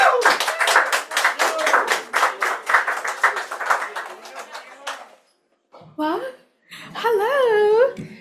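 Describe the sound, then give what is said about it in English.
An audience at an open mic night claps for about five seconds for the first performer on the list, a dense, steady patter of many hands with a few cheers mixed in, then it dies away and a lone voice starts speaking in rising, excited tones. “A round of applause.”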